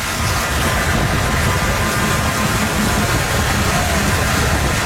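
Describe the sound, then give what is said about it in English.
A small U-Haul box trailer, hooked on the back of a car, dragging on its side along a freeway, producing a loud, continuous harsh scraping roar that stays steady for the whole stretch, mixed with road rumble and no voices. “It was on its side, dragging on its side down the freeway, and the person driving it did not notice.”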